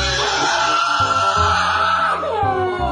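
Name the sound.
person crying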